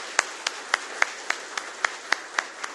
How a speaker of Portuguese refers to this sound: E, carinhosamente, eu gostaria que os colegas vereadores, vereadoras e vocês, uma salva de palmas a todos vocês que acreditaram, que acreditam num trabalho que podemos ir muito mais além.